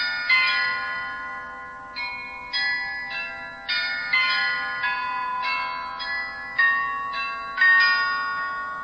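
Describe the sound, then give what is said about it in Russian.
Sixteen small bells ring out a bright, steady melody, about a dozen clear strikes, each chime ringing on and overlapping the next, with no voices. “Когда в конце концов умерла сама бедная нищая вдова, и когда ее везли хоронить, как будто бы все эти 16 колокольчиков стали звонить и играли мелодию.”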